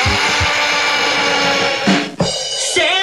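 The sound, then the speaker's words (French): A loud jackhammer rattles in a dense, continuous mechanical roar, briefly cutting out and shifting pitch near the end. No one speaks. “…, mixée par … et …, avec un bonus track, le marteau piqueur.”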